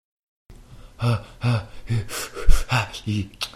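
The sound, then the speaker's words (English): A person breathes heavily and theatrically, trying to calm down, in a run of loud, exaggerated in-and-out breaths with gasping edges, repeating in a quick uneven rhythm. “I'm trying to calm down with breathing.”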